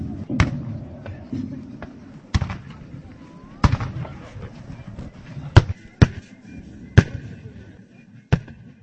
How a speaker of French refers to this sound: Les sons de canons, les armes et les costumes d'époque, la même scène que celle il y a 205 ans.